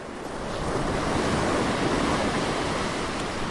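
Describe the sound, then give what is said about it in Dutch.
Sea surf washes steadily onto a shore, a broad roaring rush of breaking waves that swells in over the first half second and then holds loud, with some wind buffeting mixed in. “ik hou van die zee.”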